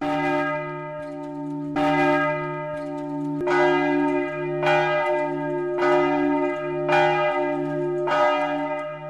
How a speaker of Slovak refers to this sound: Znie zvon farského kostola svätého Jakuba v meste Levoča na severovýchode Slovenska. Je to živý chrám. Bohoslužbám nepretržite slúži už 700 rokov. Sam o sebe je trojnásobnou národnou kultúrnou pamiatkou.